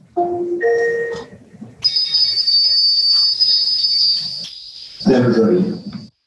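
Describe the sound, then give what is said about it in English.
An Amazon Alexa smart speaker broadcast announcement that dinner is ready: a short rising two-note chime, then a bright sustained electronic tone, followed by a brief burst of a synthesized-sounding voice. “So Alexa, broadcast dinner's ready.”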